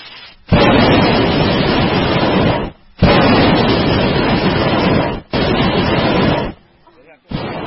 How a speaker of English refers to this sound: The basket also carries tanks of gas. These tanks of gas are attached to a burner. The burner uses the gas to create fire.